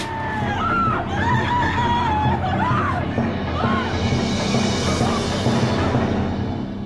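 Several young women scream in high, wavering shrieks that rise and fall and overlap, set against a dense, noisy background that stays loud and steady throughout, in a clip from the film The Hitchhiker, an Asylum mockbuster about four young women who run out of gas on their way to Las Vegas.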